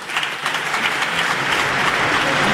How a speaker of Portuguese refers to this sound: Estou ouvindo agora cada vez mais aplausos na bancada do PS com estas mensagens mais políticas